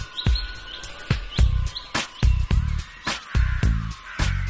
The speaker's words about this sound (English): It's about 6:30 now. Still quite light. Very peaceful. It's almost like the birds are talking to each other. They might be, actually.